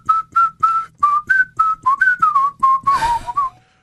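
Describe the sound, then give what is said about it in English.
Someone whistles a catchy pop melody, a quick run of short, bright notes in a steady bouncy rhythm, ending with a breathy rush of air as the tune trails off. “I just got what you were whistling.”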